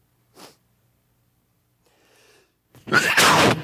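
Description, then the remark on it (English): A loud sneeze bursts out near the end, preceded by a short sharp intake and some faint breathy sounds during the quiet stretch. “I'm trying not to sneeze.”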